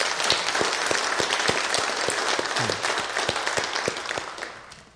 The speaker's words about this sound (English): And at this time, we also want to thank Larry Palma. Larry has served faithfully for 3 years, has been a real blessing to the deacon board and the consistory board. And let's give Larry a nice round of applause, too, for his service.